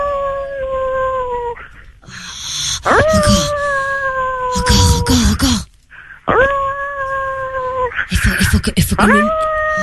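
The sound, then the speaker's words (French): Two people imitate wolf howls in the street in a few long, loud, sustained calls that swoop upward and then hold, with scuffling noise and a brief spoken word between the howls. “Oh, c'est pas vrai, tu vas faire le loup en pleine rue?”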